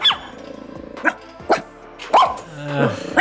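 A dog barks in several sharp, loud bursts, with a low growling rumble between the barks. No one speaks.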